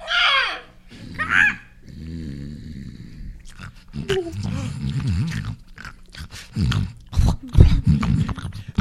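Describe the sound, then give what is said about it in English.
Birds eating seed at night, but sounding like bears: low, rumbling growls and snorts come in uneven bursts, with a few higher squawking calls at the start and a run of loud grunting throughout. “My parents don't believe me when I say that birds sound like bears when they eat.”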